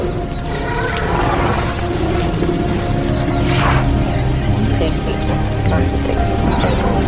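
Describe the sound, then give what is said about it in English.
Dozens of elephants, including a calf beside its mother, cross a road in two large groups, with steady low rumbling and heavy shuffling throughout, plus a brief brighter call rising in the middle, all fairly loud and continuous. “Dozens more elephants cross about 100 yards up the road. Hundreds.”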